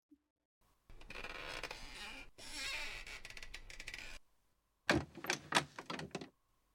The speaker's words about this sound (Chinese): 来，先让我把椅子放平。毕竟这次是我来控制呢。